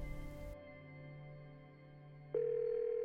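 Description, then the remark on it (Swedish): A short rush of noise gives way to a steady electronic telephone tone, then a louder, clear ringback tone begins near the end, as on a phone line: a woman's outgoing call home to her mother in Sweden, made on a borrowed SIM card. “Det fungerar och hon ringer hem till sin mamma i Sverige.”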